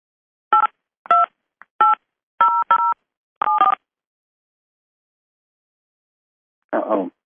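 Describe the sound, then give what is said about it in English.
Six telephone keypad tones beep out a subscriber PIN on a conference call line in uneven succession, each a short dual-pitched chirp, then silence before a brief snippet of voice at the very end. “Please enter your subscriber PIN followed by the pound sign.”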